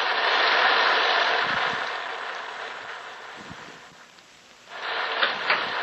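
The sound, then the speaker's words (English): Steady red rain pours down in a dense, hissing wash, loud, thinning briefly before surging back with a few sharper splashes near the end. “And the rain. Look at the rain.”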